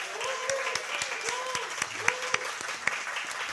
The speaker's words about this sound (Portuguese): eu peço uma salva de palmas para ele.